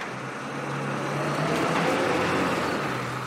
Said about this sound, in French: À 13h47 précise, le bus déposa la jeune femme et deux autres passagers devant le numéro 16 de la rue Ulysse Grant.